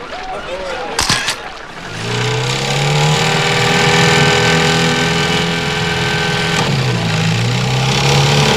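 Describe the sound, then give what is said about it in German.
A boat motor is started so the boat can move closer to a staged Viking battle. It cranks with a couple of sharp clunks, then catches and settles into a loud, steady, droning run that continues to the end. “Peter, ja, wirf den Motor an.”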